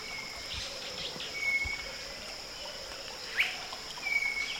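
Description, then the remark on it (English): Thin, drawn-out whistles of a rufous-backed robin, answering another, closer rufous-backed robin with the same type of whistle, sound a few times separated by pauses, over a steady hum of insects and soft river ambience. “Another rufous-backed robin is answering the closer individual with the same type of whistle.”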